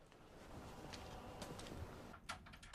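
door opening

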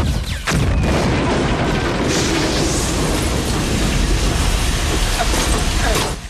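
gunfire

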